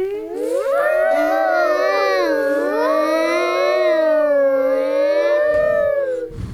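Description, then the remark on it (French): A voice imitates an elephant trumpeting: one long, loud, wavering cry held for about six seconds, ending with a brief breathy blow. “Mais l'éléphant refuse et continue de barrir et de souffler.”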